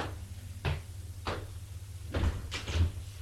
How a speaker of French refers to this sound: François ouvre la porte.